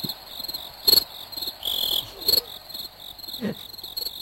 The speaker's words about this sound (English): Oh, by the way, are those crickets? Did you just play crickets? Crickets? I'm playing crickets, yes.